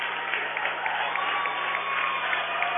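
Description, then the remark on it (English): A crowd applauding steadily, a dense patter of many hands clapping at an even level for a few seconds, with no voices standing out: Ewing fans applauding the Heartland Lutheran team at an opening-round game. “Even the Ewing fans are applauding Heartland Lutheran.”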